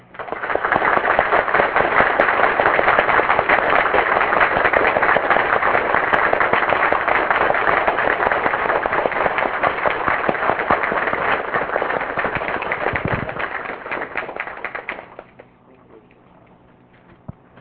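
An audience breaks into a sustained round of applause, dense and loud with crisp clapping for about fifteen seconds before fading out into quiet.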